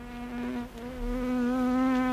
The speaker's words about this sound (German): Da hören wir eine kleine lästige Fliege.